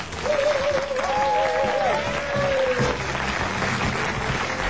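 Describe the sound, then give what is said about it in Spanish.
An audience applauds steadily and loudly for nearly five seconds, a dense wash of clapping with a wavering whistle-like tone briefly rising above it in the first couple of seconds, welcoming the hosts of the special radio show Cos Berberechos 2009, which sees out 2008 and welcomes 2009. “Recibamos cun forte aplauso aos conductores deste programa especial”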